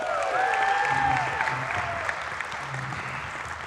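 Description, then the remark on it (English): An audience applauds volunteers on stage, clapping steadily throughout in a dense, even wash of many hands, with a few sharp whistles and cheers rising above the applause in the first second and a half. “Can you hear it for my volunteers up here, by the way?”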